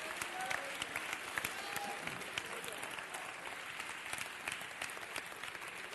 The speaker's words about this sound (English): Would you give them a hand clap tonight? Would you give them some praise?